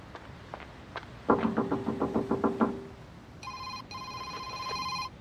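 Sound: front door closing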